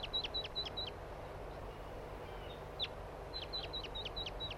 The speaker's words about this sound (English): Here's one of the wild birds now in a tree.